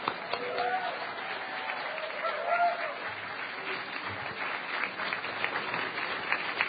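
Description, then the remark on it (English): Steady applause from an audience, a dense wash of clapping that holds at an even level for several seconds, with a few faint voices and whistles rising through it. “Do not applaud for me. Applaud for yourself and your potential.”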